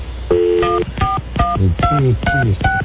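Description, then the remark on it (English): A rapid series of telephone keypad tones dialing an outgoing call on the Don and Mike show, about a dozen short dual-pitch beeps in an uneven rhythm, fairly loud with a thin, phone-line quality, mixed with some warbling tones. “If you'd like to dial an outgoing phone call, you should take the new employee who's in charge of dialing the phone.”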